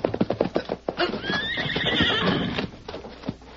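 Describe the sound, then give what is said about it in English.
A horse stumbles and falls, letting out a loud, rising whinny in the middle, framed by a quick rhythmic run of clopping hooves before and a few scattered hoofbeats after, clear with no talking. “Suddenly, he saw his quarry's horse stumble and fall.”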